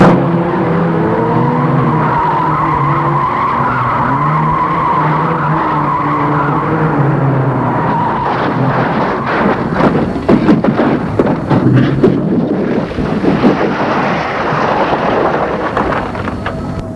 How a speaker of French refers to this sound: Émile donne un coup brusque au volant. Malheureusement, sa voiture a touché l'autre et c'est l'accident.